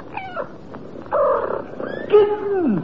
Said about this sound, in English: Kittens. Four pretty little kittens. Dear me, it looks as though we're going to have to call you Delilah in future.